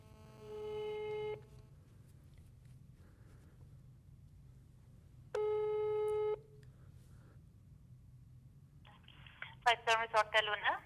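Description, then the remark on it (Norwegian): A telephone ringing tone sounds twice during a call to the Beitostølen Hotel, each a steady buzzy tone lasting over a second, separated by a long pause, followed by a brief choppy burst as the line seems to connect. “Da inntar vi plassene, og vi i ferd med å ringe Beitostølen Hotel.”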